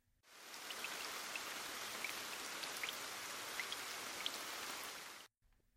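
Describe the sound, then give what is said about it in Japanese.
Steady rain falls in a dense, even hiss, with scattered brighter droplet taps pattering on a surface, heard while two people share one umbrella; no voices, and it cuts off abruptly at the end. “やっぱり雨も悪くないね。こうやって一つの傘でくっついていられる。”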